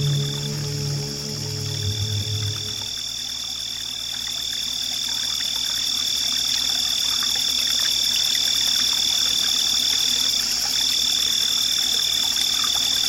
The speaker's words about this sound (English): And before we get going, let's just take a little listen to some of that wilderness right now from the DIY parabolic trash can microphone sitting just outside. Let's give those crickets their moment.